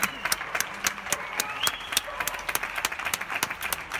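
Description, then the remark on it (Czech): Scattered applause from many people on balconies in Spain, clapping at a set time in the evening for health workers caring for the sick; sharp irregular claps ring out over a low murmur of crowd noise and faint cheering, steady throughout the few seconds. “Nedělají tam koncerty, ale každý večer v určitý čas tleskají zdravotníkům, kteří se z posledních sil starají o nemocné.”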